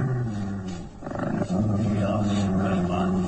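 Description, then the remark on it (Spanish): A mastiff rises nervously and growls low and menacingly, a continuous rumbling snarl that swells into a rougher burst partway through before settling back into a steady threatening growl. “Instantáneamente el mastín se incorpora nervioso, gruñendo amenazador.”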